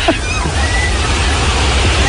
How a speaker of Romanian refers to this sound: Nu vântul schimbării, ci un vânt ca un taifun a făcut ravagii weekendul ăsta în China. Ceea ce se aude-i vânt. Niște lamentări chinezești. Ce tare bate vântul.